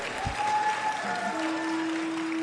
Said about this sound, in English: And, in 20 years, I'll take applause, by the way. It's early.